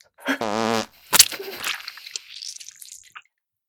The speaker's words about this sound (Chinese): 哎呀，管天管地的，管不住拉屎放屁。你看你的报纸吧，儿子都没说什么呢，不就是放个连环屁吗？